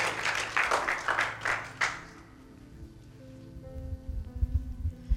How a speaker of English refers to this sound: Round of applause for